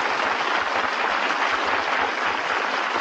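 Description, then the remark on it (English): Steady, sustained applause from a large studio audience, a dense wash of clapping hands that stays loud and even throughout with no voices breaking through. “That keen flavor that everybody loves, and you can tell, my friends, he's really eating it by the applause of this studio audience.”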